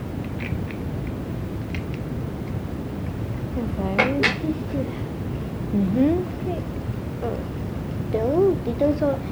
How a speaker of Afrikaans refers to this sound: Dit is een ketel. Ketel? Ja, een koffiepot.